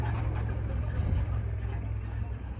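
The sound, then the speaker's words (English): A shuttle bus engine rumbles in a steady, low, throbbing drone that swells slightly midway as the vehicle moves past on a street in San Cristobal, Mexico, with faint street noise behind it. “You can take a shuttle bus like that to Walmart, Mercado, Centro.”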